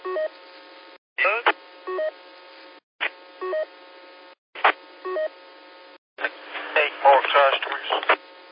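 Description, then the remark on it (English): Short telephone keypad tones beep in several spaced groups over a thin phone-line hum, with brief voice bursts between them and muffled over-the-phone talking at the end. “Hey, that phone call, somebody saying I ain't coming in.”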